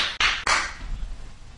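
Three sharp hand claps in quick succession, each a bright, crisp smack that fades fast, followed by quiet with no one speaking.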